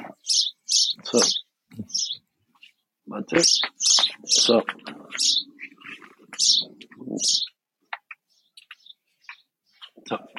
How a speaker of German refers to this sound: Weil sie sind jetzt sehr, sehr laut auf dem Mikro gerade. Ja, das ist jetzt die Zeit, wo die Vögel aufwachen.